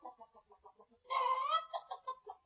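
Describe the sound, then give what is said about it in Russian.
A speckled hen strutting around a yard clucks in a quick, steady run of soft clucks, lets out a louder drawn-out squawk, then goes back to choppy clucking. No one speaks. “Ты гляди, как она важно вышагивает по двору.”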